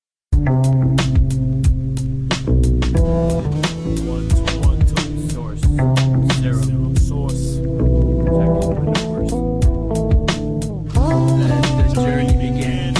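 A song intro plays: a loud, steady beat with sharp percussive hits over deep bass and layered sustained tones, continuous for the whole stretch with no vocals yet.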